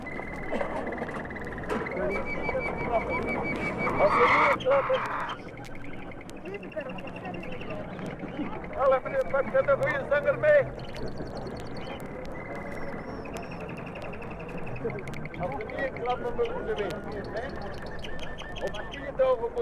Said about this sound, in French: Ou bien, le dimanche matin, quand s'y tient le marché aux oiseaux.